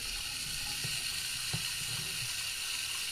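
Water pours steadily from a tap in a constant, even hiss with a couple of faint clicks early on. No one speaks.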